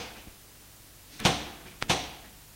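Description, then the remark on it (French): Two car doors thump shut in quick succession as two people get out of a car on arriving at a house at 7 p.m., a heavy slam followed about half a second later by another, against a quiet, faintly hissy background. “Ils sortent de voiture”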